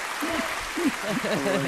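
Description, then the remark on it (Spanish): A steady burst of crowd applause, a sound effect played by a radio technician, fills the whole moment, dense and continuous, with voices talking over it. “voy a pedirle a nuestro técnico Luis Beamut que os prepare un aplauso”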